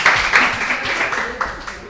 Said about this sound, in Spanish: Pues es correcto, muy bien. Se da un aplauso cuando es correcto, ¿eh?